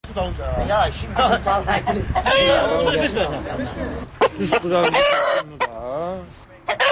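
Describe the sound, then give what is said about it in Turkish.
Roosters crow and cluck repeatedly at a cockfight amid a busy crowd in Maştağı settlement, a Baku village in Azerbaijan, on a Novruz holiday evening, March 20, with people chattering and calling out, the bird calls rising in sharp, wavering bursts over the steady murmur. “Martın 20-sində bayram axşamı Maştağı qəsəbəsində də xoruz döyüşdürülmə səhnəsi qurulmuşdu.”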